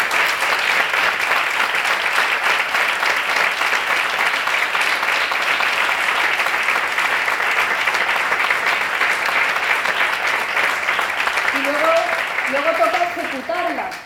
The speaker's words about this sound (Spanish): Así que pido un aplauso para él.